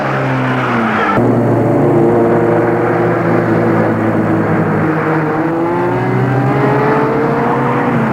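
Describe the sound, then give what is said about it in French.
A car engine roars loudly as the car speeds along the ring road (périphérique), its pitch dropping with a gear shift early on, then climbing again as it accelerates. No one speaks. “Roule, tout le long du périph. Gilles fonce, fonce, fonce.”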